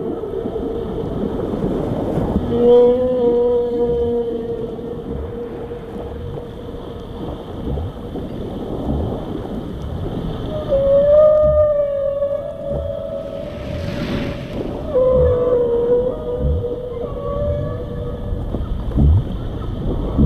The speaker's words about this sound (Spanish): Bueno, son como voces de otro mundo, pero son de este mundo, ¿no? Y mucho más antiguas que las nuestras, por cierto. Bien, estos son ballenas. Asociamos los sonidos de los seres vivos del mar, submarinos, al canto de las ballenas, ¿no?